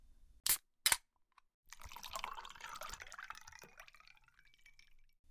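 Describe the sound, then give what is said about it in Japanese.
Two sharp clicks, then alcohol pours steadily into a cup for about three seconds as a drink is served to a guest, its gurgling tone rising as it fills and tapering off. Fairly quiet, with no voices. “ほらコップ持って、継ぐからさ。”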